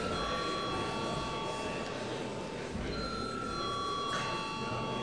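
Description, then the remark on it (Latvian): A steady electronic bell tone rings continuously for several seconds in a session of the Saeima (Latvian parliament), called before the deputies register their attendance. Its pitch shifts slightly partway through, over a constant murmur of background noise. “Lūdzu zvanu.”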